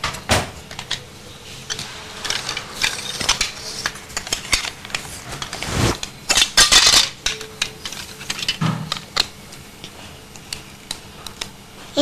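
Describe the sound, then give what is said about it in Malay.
Metal tools clink and rattle as an adjustable wrench is picked up and shifted around, with scattered clicks and a couple of louder scraping knocks, no talking. “Ini kunci Inggris ini. Ini siapa kunci yang kau pakai tu kunci?”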